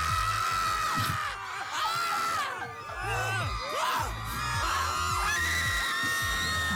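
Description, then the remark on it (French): A crowd of people screams together loudly for several seconds as a therapeutic release, many voices overlapping in sustained, rising and falling yells with a few whoops. “Le but, c'est de crier pour évacuer.”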